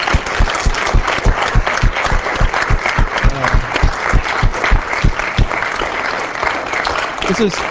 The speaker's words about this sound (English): Okay, so, yeah, I wanted to thank the staff, it's those who I can who soon can round up for all of their efforts. So we just give all of them a round of applause for everything.